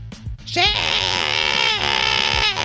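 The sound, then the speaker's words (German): A single loud, drawn-out scream of a name, one voice shouting at full strength, pitch wavering slightly as it holds for about two seconds. “Also ich würde nochmal versuchen zu schreien,”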